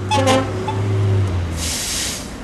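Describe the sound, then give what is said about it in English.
Heavy city traffic in Houston, Texas, with a long, low horn blast, a shorter higher honk, and a rush of hissing air like brakes as the horn fades. “We finish this hour in Houston, Texas, in the middle of heavy traffic.”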